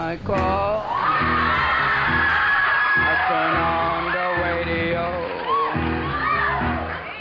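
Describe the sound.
A man yells loudly and continuously into a microphone, his voice rising and falling in long strained shouts over a steady, pulsing rhythmic backing, with a crowd-like roar filling the background.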